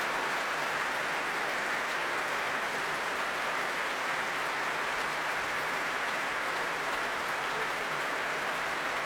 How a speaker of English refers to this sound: Well, as the applause continues to ring out around the Royal Albert Hall, that is it from this first prom of the evening.